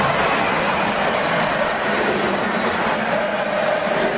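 football stadium crowd roaring

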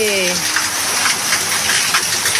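heavy rain downpour

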